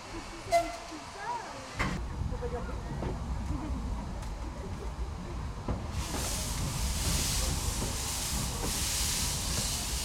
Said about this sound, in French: Car maintenant, je vous raconte l'histoire du Maestrou, le train à vapeur des Gorges du Doubs, situé en Ardèche.